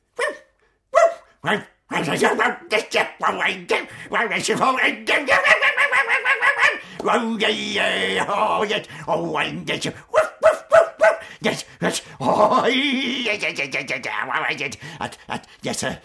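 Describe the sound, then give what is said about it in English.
A person loudly imitates a dog, with a rapid series of snarling barks and growls, lasting several seconds in bursts. “Only turn into the dog, goes for me, teeth bared, barking, frothing.”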